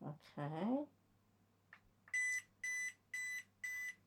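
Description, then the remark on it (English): Four evenly spaced electronic beeps ring out clearly, each a short bright tone, following a brief burst of voice and a small click, as the single button on a power bank is pressed with no device plugged in; the four beeps signal a full 100% battery. “So what you got is four beeps. That told me there's 100% battery in there.”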